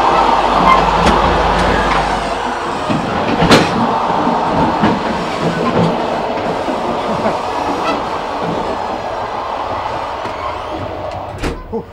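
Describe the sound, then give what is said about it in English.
Loud, steady rumble and rattle of a moving train heard in the bumpy gap between two rail cars, with sharp clanks and jolts cutting through the continuous roar. “You lost your balance right between the two cars. Yeah, well, that's the place to lose your balance because it's really bumpy there.”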